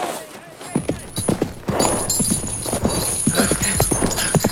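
horse hooves clip-clopping

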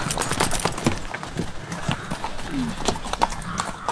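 horse hooves clip-clopping

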